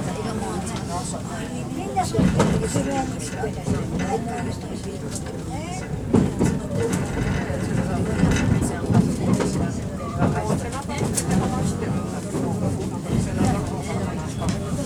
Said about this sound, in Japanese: 根深駅お出口は右側です。この電車根深駅で停車時間がございます。6時6分の発車です。